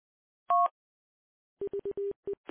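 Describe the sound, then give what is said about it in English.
A short, clean two-tone radio roger beep sounds, then after a pause a quick run of lower electronic beeps of uneven length follows, with a brief burst of static at the very end. “Yeah, I'm going to have to get your Roger beep to go with that echo.”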